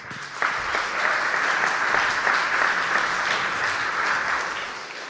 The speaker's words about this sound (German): Komm mal hoch, dicker Applaus.